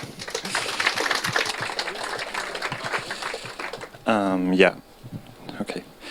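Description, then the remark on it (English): Light, scattered clapping from a small audience for about four seconds before a talk on maintaining a healthy relationship to a project, followed by a short rising vocal whoop, then a few last claps trailing off. “Small applause, and let's go.”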